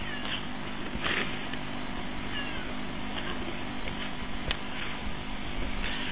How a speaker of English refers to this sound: It's my kitty cat. Keep it in the corner. It screams Japanese at me.